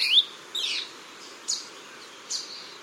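A saberwing gives four sharp, high-pitched chirping calls at uneven intervals, each brief and clear against a faint, steady background hiss, with no voices present.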